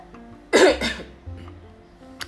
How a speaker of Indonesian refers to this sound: Bentar, aku mau batuk dulu ya, suara aku serak banget tuh, padahal udah minum Lasarin loh. Aku takut mau batuk ntar kalian kaget lagi.